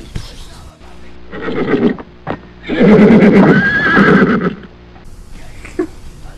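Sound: horse neighing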